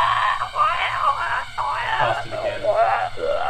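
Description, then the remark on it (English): A voice imitates the drawn-out, wavering scream of a huge mushroom melting from acid, rising and falling in strained, buzzy wails that continue loudly and almost without pause. “The second that you pushed open the doors, an enormous scream starts erupting from that mushroom. And it just won't stop.”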